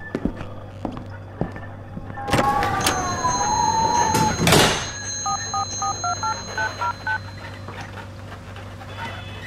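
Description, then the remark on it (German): A quick run of about eight short, evenly spaced telephone keypad tones is dialed to call Joseph, following a brief rising tonal whine and a sharp burst of rustling noise over a low steady hum. “Es klingelt. Das klingelt oben.”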